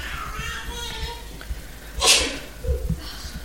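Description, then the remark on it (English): A single sharp sneeze bursts out about two-thirds of the way through, loud and breathy, over faint background murmur. “Bless you.”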